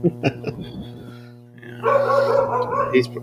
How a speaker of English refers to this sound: Your dog's barking at the Mexican. Could be.